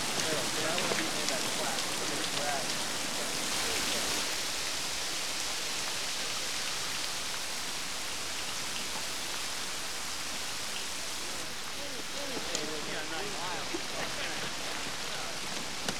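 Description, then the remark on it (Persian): Shower water runs steadily throughout, a dense, even hiss of spray hitting a surface, fairly loud, with no pauses or breaks. “آب سرده یا گرمه؟ خوبه. دوش میگیری یا نه؟”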